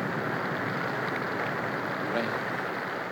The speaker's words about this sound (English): Rain at last. Refreshing, wonderful, life-giving rain.